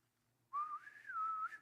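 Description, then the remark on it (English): A whistled imitation of a bosun's pipe call: one sustained, clear, fairly loud tone that rises and wavers in pitch before dipping and holding steady, lasting about a second, with no talking. “When I was stationed on an aircraft carrier, I can still hear the bosun's whistle over the loudspeaker.”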